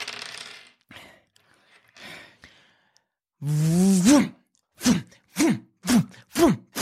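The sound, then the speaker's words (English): Dice rattle and clatter with a few quiet, uneven clicks for about three seconds, then a drawn-out vocal groan and five short, rhythmic grunting sounds. “He needs to make a roll, and you're going to need to make a very important roll as well, at a penalty.”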